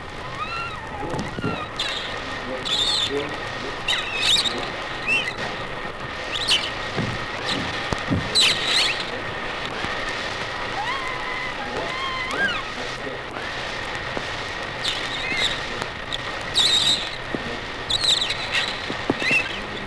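A beluga sturgeon moving actively in a pool: irregular watery sloshes, soft thumps and scattered clicks, moderately loud, over a steady faint hum, with no talking.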